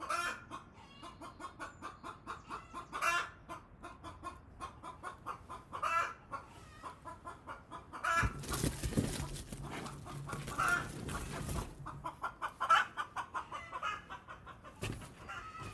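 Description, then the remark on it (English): A hen clucks after laying an egg, steadily in quick repeated bursts, fairly loud, building into a louder, harsher cackling stretch midway before settling back into rhythmic clucks. No one speaks. “Chickens cluck after they lay eggs.”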